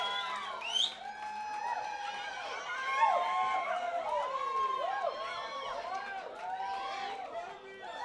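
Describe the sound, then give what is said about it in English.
A crowd cheers and whoops continuously for a live band, with many overlapping shouts and screams at steady loudness and some clapping mixed in, sustained for the whole stretch. “Would you give me a loud, wonderful, clapping, screaming, intoxicated bullshit for the best band I've seen in a while?”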